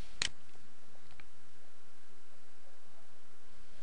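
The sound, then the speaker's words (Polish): A sharp mouse click on Save right at the start, followed about a second later by a fainter click, then only a steady quiet hiss. No one speaks. “Klikamy zatem Save.”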